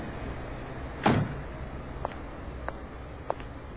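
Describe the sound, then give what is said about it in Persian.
A car door lock engages with a dull mechanical thunk, followed by three small, evenly spaced clicks against a quiet background hum. No one speaks. “در ماشین رو قفل کن”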